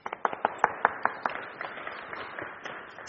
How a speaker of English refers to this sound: Thank you, farmer. Thank you, seeds that have grown. Give them a clap.